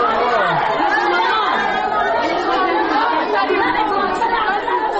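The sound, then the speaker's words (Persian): A crowd of female prisoners in the women's section of Herat central prison shouting and clamoring over one another, a dense, loud and unbroken wall of overlapping voices with no single speaker standing out for the full five seconds. “شاید یکی دو دقیقه که بیشتر از آمدنم به زندان زنانه نگذشته بود که داد و فریادهای زندانیان زن در زندان مرکزی هرات به شکل عجیب و غریبی بلند شد.”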